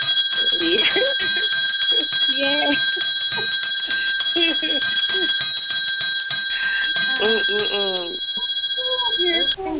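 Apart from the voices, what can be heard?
bells ringing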